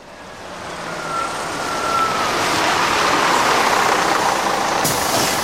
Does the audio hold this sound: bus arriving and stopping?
yes